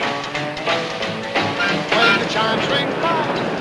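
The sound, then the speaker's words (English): Elevated commuter trains rumble and clatter past in opposite directions, a dense, steady roar of rolling wheels and metallic screeching that stays loud throughout, with surges as cars pass. “Now, elevated commuter trains roll in opposite directions.”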